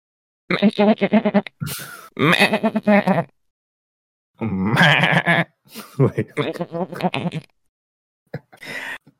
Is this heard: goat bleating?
yes